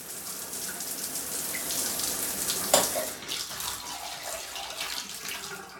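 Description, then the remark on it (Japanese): A shower in a bathroom is turned on again and runs steadily, its water hissing and spattering, with a single sharp clunk partway through and the spray continuing unevenly afterward. “そして再びシャワーを流す。”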